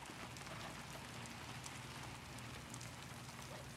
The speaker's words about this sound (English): Rain streams down the window panes